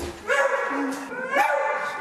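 Small dogs bark and yip in high, excited bursts at a dog boarding kennel in Ysby where dogs stay while their owners are on holiday, a few loud yaps with whiny tones between them, over a busy kennel background.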